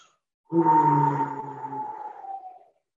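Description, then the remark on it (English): A single deep, sustained vocal 'whoo' sound on a long exhale while squeezing the stomach in a breathing exercise, steady, lasting about two seconds before tapering off into silence. “And when we bring it to the stomach, we're going to have a deep voice when we release and squeeze. It's W-H-O.”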